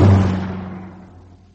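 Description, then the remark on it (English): A car passes by with a steady low engine rumble and hiss, loudest at the start and fading away over about a second and a half. No voices. “Car.”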